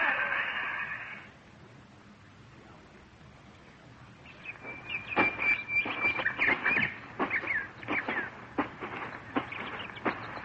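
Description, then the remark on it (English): Birds on an uninhabited island call repeatedly after a brief opening sound, a flurry of sharp, harsh squawks and honks, loud, with a high whistling tone running through the middle. “Except for birds.”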